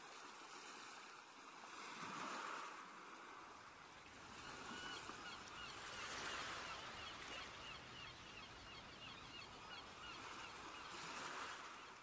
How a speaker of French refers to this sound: Vous appréciez pour quelques minutes encore le bruit des vagues et des mouettes et la douceur de cette mer accueillante.